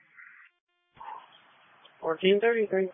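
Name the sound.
dogs barking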